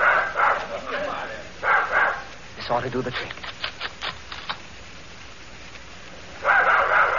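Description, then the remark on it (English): Dogs tracking a scent bark in rough, noisy bursts at the start and again near the end. Between them a man speaks briefly over a quick run of sharp clicks and taps. “The spoon will throw the dogs off the scent.”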